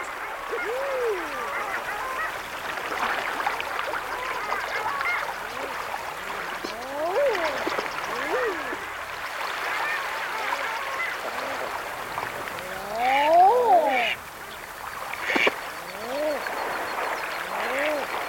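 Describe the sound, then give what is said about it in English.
A gathering flock of long-tailed ducks, a kind of sea duck, calls continuously, many overlapping yodelling, rising-and-falling notes forming a dense, busy chorus with a louder burst of calls near the end. “And this bird's the sea ducks, the long-tailed ducks, sorry, they're just gathering, getting ready to go to their breeding grounds in the north.”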